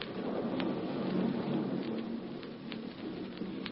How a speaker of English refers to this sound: the storm is stopping.